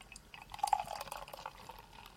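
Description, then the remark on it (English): Dark beer being poured into a glass, a steady gurgling, fizzy splash that swells after the first half-second and keeps running without pause. No voices. “Because you're the one that can pour things.”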